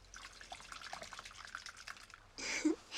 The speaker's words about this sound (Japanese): こうしてスポンジで泡を作って、こうするときめ細かい泡ができてすごく気持ちいいんですよ。